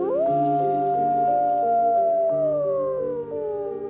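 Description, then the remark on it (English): Several wolves howl together in long, drawn-out overlapping tones that hold steady and then slowly slide downward, a loud, continuous chorus with no speech. “So this is where the wolves come in.”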